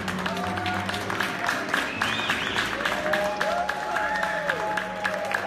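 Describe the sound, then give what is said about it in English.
An audience applauds steadily throughout, a dense, even wash of many hands clapping at a constant loudness, with faint voices and some tonal sounds mixed underneath. “Clap for him again, because he's giving us all religious liberty back.”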